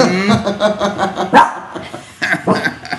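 A dog barks and yips in short bursts over a busy background, with voices mixed in; a sharper, louder bark stands out near the middle.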